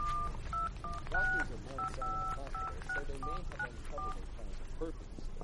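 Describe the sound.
A rapid series of short, bright telephone keypad tones beeps out a number to call an office, each dual-pitched chirp separated by brief gaps, while a low murmur of voices and background hum runs underneath.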